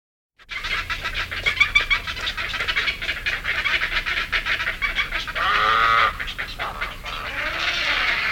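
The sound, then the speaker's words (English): A loud, continuous stream of rapid kick-kick-kick hunger calls from young birds begging for food, the harsh repeated notes overlapping in an insistent chatter with no talking. “Kick-kick-kick-kick noise is a typical hunger call of the young.”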